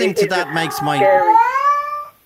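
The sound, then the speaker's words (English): A cat lets out a loud yowling cry, starting with a few wavering, warbling notes before rising into a long, drawn-out wail that fades after about two seconds. “I've heard cats do that before.”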